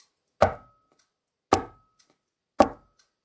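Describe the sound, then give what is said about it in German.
Three sharp, evenly spaced knocks on the iron door of a cave in a forest, made by the old dog Bautz with his paw, each with a short resonant ring that fades quickly, separated by about a second of silence. “Und noch einmal.”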